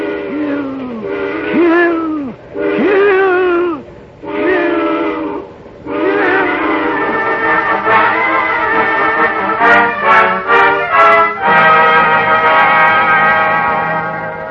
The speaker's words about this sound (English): And then, as the eerie shriek of the train whistle suddenly blasts into his ears, a new thought is wedded to it.